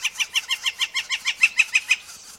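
A young northern flicker, a fledgling just out of its nest, calls in a quick, steady series of about a dozen bright, clucking notes, clear, with no other sounds around it, while poking around in the dirt and leaf litter on the ground for ants and other insects.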